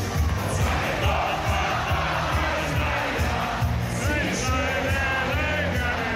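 A crowd in an Oktoberfest beer tent cheers and bawls along with a band, people standing on beer benches with hands raised, many voices shouting and singing in a loud, continuous roar over a thumping, rhythmic low beat.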